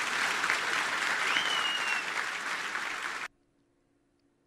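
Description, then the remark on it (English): A large crowd gives a standing ovation, clapping loudly and steadily in a dense wash of applause for about three seconds, then it cuts off abruptly to near silence. “Now, if it seemed like that applause went on for a pretty long period of time, it's because it did. That turned into a standing ovation.”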